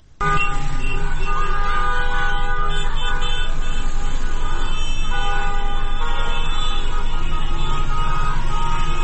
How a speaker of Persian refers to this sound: امروز صبح هم عده‌ای از دانش آموزان یکی از مدارس بیرون از محوطه مدارس خطاب به ماشین‌هایی که بوق می‌زدن در خیابان، که این هم به امری عادی در روزهای گذشته تبدیل شده، می‌گفتند، شعار می‌دادن که بوق نزن، فریاد بزن.